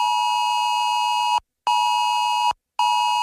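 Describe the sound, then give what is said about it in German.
A loud, piercing emergency alert tone from many mobile phones during the nationwide warning day test, sounding in long steady blasts separated by brief silent gaps, with no voices. “So klingt's dann am Donnerstag in 2 Wochen wieder von vielen Handys.”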